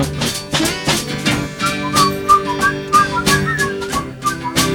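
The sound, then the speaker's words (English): People whistle a bright melody over a busy musical backing with steady, punchy drum hits. The whistling is clear and continuous, riding on top of the beat. “Everybody whistle.”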